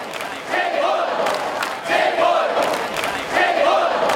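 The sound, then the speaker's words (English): A large protest crowd in Hong Kong shouts together in loud, rhythmic surges, voices rising in a chant roughly every second and a half over a constant roar of many people, protesting on a weekend against mainland China's efforts to roll back its freedoms. “The people of Hong Kong have taken to the streets again this weekend to protest mainland China's efforts to roll back its freedoms.”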